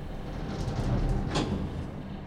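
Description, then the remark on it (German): Elevator doors slide shut on the fourth floor over a steady low rumble, with a brief brighter swish near the end of the motion. Moderately loud, with no voices. “Türen schließen.”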